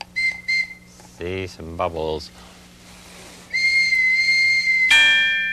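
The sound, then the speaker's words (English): A toy trolley's high, bright whistle gives a few short toots, a voice speaks briefly, then the whistle sounds again in a long, steady, louder note that shifts to another tone at the end. “Let's get the trolley.”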